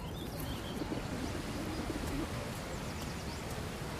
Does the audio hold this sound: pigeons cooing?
yes